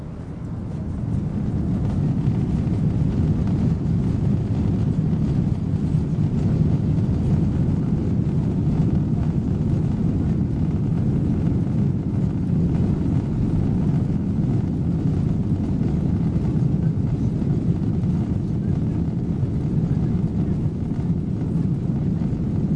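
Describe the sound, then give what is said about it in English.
A steady, continuous low engine drone of an airplane in flight, filling the whole stretch with a dense, unchanging rumble and faint airy hiss, with no voices. “Flying can be nice once you're in the air. Don't you wish we could be here forever and never have to land?”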